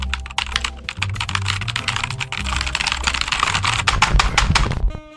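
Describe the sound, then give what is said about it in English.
Rapid, continuous typing on a computer keyboard as data is entered into a computer, a dense stream of clicky keystrokes with a steady low hum underneath, ending abruptly after about five seconds. “Let's enter the data into the computer.”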